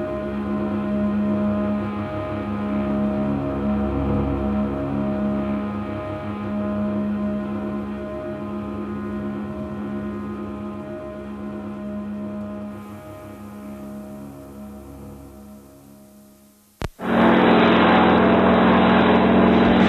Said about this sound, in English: Float plane.